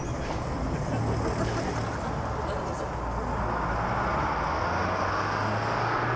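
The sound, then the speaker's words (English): The last city bus of the night pulls away late at night, its engine rumbling with a heavy, steady diesel drone, the low hum rising partway through amid constant street noise. “Diesel fumes fill the air as the last bus for the night pulls away.”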